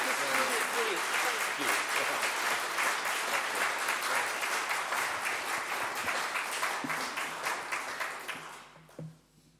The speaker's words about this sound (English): So we give one more round of applause for Councillor Chris Barry. Thank you.